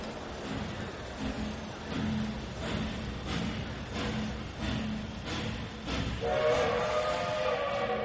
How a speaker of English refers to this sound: They stood like that until the train was a long way from the station.